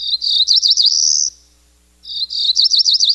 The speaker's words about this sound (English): But Barris says he has been able to tailor the application so it can tell that these two calls are from the same cerulean warbler.